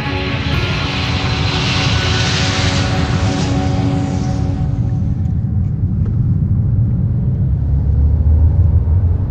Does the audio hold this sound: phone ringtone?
no